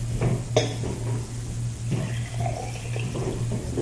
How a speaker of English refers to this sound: Okay, would you please pour the water in the yellow cup, yes.